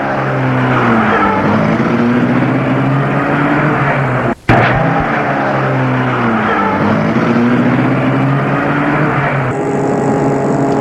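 A car engine drones steadily, its pitch climbing and dropping as it accelerates through the gears, with a brief cut partway through and no voices.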